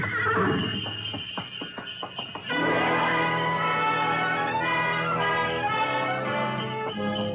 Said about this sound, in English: We glided out of the station, runners squeaking on snow, the soft pad of hooves, and the jangle of Mary Bell.